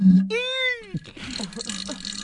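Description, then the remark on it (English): A short, squeaky fart with a rising-and-falling whine lasting about half a second, preceded by a low buzz and followed by scratchy, breathy noise. “Man, it sounds like a dolphin taking a fart.”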